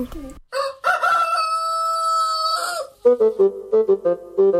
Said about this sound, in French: Quel animal fait ? Kikiriki. En allemand. Je te donne un indice. En français, on dit ? Cocorico.